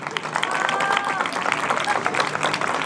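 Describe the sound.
A crowd applauds steadily, dense clapping filling the whole stretch at a constant level, with faint voices and a brief whistle-like tone mixed into the noise.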